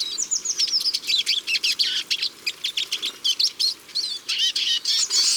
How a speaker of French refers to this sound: Ils sont tout petits, jaunes et noirs, et toujours en bande. Ces tarins des aulnes viennent du nord de l'Europe pour passer l'hiver chez nous.